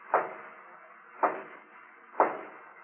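Three slow, evenly spaced raps by a guard on the wooden door of Culebra's hacienda, each a sharp, solid knock with a short resonant tail, separated by about a second of quiet. No voices.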